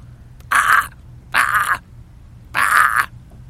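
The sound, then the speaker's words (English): A man imitates seagull calls at a seagull about a foot in front of him, trying to get it to call: three loud, harsh, squawking cries, each under half a second long, separated by short pauses over a low background hum. “I tried to make some seagull noises to get some noise out of him.”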